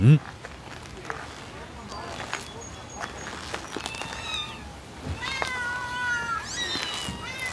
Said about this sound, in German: Warum sind denn da so viele Katzen drin?